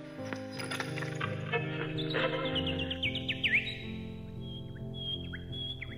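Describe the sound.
The actor Mića Tatić whistles quick, chirping bird-like notes, a run of rising and falling tweets imitating a small bird, heard over steady background music with no talking.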